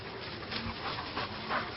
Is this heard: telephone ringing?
no